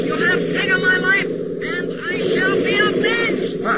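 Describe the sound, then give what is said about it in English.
A steady, droning airplane engine roar runs continuously underneath, fairly loud, while a voice speaks over it throughout. “above the roar of their engines, heard the rattle of machine gun fire and the ghostly voice of the enemy pilot.”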